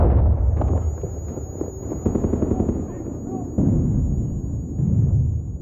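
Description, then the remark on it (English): Chaotic combat noise as Mexican Marines raid a house, throwing grenades into rooms: sustained rapid gunfire and heavy booming grenade blasts, loud, dense low rumble throughout with sharp surges; muffled voices faintly mixed in. “The Marines were pulling pins on grenades and throwing them into the other rooms, and the explosions were deafening.”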